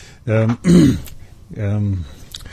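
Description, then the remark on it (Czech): A person with a slight cough clears their throat with a few short, rough, voiced bursts, followed after a brief pause by another longer, gravelly throat-clearing sound. “Třeba ho mám teďko zrovna, nebo protože mám takovej kašlík, ty taky třeba, nebo to.”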